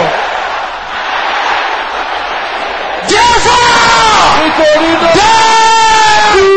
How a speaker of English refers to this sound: Can I hear you with a loud voice shouting this after me?